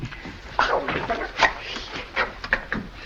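A dog whimpers in a handful of short, high-pitched whines spread over a few seconds, moderately loud against a faint background hiss.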